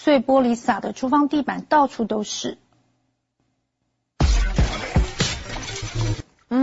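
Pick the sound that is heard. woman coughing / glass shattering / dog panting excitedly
glass shattering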